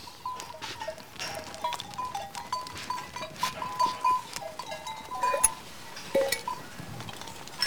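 A flock of ewes crowded together in a pen, hooves shuffling and scraping while small bells clink steadily and a faint bleat rises now and then, with no one talking.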